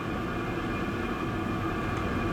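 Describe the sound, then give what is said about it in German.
A millstone grinds grain in a steady, unbroken rushing roar, with a clear, bright singing tone ringing faintly above the noise. No one speaks. “Das eigentliche Geräusch, wenn der Stein die Körner zermahlt, das hat was Singendes, weil der Stein so einen hellen, klaren Ton dabei gibt.”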